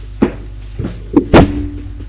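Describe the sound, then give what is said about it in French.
A bedroom door, number 22 on the first floor of a dark building, is opened with a few soft thuds and clicks, then one sharp, louder knock-like bang that rings briefly. No voices. “Jules ouvre la porte 22.”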